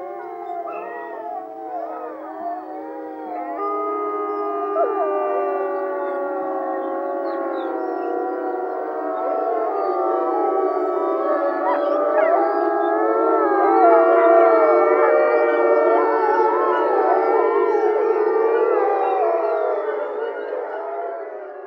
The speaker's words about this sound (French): Tiens, et si on écoutait le loup nous chanter son chant?